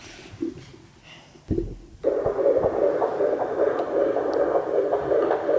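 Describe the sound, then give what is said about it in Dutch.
A recording of a child's heartbeat from when it was in its mother's womb plays as a steady, muffled whooshing with a throbbing pulse, starting after a couple of low thumps and continuing loudly to the end, with no voices over it. “Dat is het geluid van jouw hartje toen je nog bij mij in de buik zat.”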